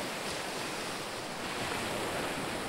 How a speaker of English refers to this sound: And the wave recedes, draining back down, leaving a wet outline on the sand to the highest point where it went. And then that too drags away.